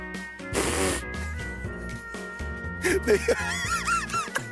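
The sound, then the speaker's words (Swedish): Someone presses their lips against the crook of their arm and blows a childish fart noise: squeaky, buzzy bursts with wobbling, rising and falling pitch, repeated over a few seconds. “svarar med att trycka läpparna mot armvecket för att göra ett barnsligt pruttljud.”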